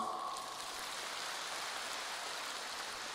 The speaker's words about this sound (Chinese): 是的，有 鼓掌。